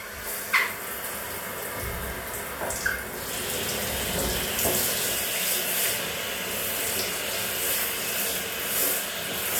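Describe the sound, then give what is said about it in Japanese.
Steady running water pours and splashes continuously as a shower rinses soap suds off someone's body, with a few brief rubbing and splashing accents near the start and no speech. “洗った？じゃあ体流すよ。”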